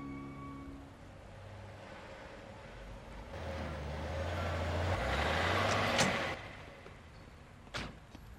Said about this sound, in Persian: آخرین کامیونم رسید.